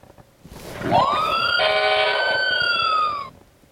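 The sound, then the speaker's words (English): A fire truck siren wails once, sweeping quickly up in pitch, holding a loud, steady tone, then sliding slightly lower before cutting off. No one speaks over it. “I'm a fire truck.”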